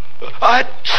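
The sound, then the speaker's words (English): A single loud sneeze: a short voiced intake bursting into a sharp, hissing exhale, heard on its own with no talking. “Bless you. Thank you.”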